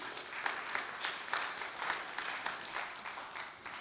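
Steady audience applause, a dense wash of many hands clapping at a moderate level with faint rhythmic swells, continuing for the whole stretch without any talking over it.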